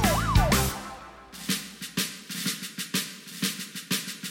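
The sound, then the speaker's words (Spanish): A passing fire truck's siren wails loudly for a brief moment at the start, then gives way to a steady series of rhythmic, evenly spaced pulses. No one speaks. “¡Está pasando el camión de bomberos!”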